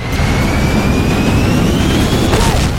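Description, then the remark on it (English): An Amazon delivery drone flies in a video game, a loud, steady mechanical roar with a thin high-pitched whine gliding slowly upward across the whole stretch. No one speaks. “Okay, that was definitely the Amazon drone.”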